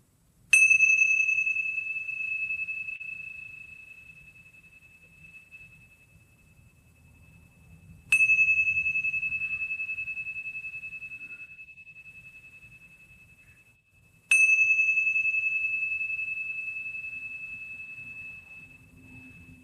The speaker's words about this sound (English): These are brass tingsha Tibetan bells, or they're called cymbals. So there's a leather string with a cymbal on each side